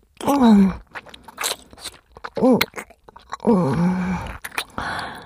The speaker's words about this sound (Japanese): まずは、しっかり咀嚼して。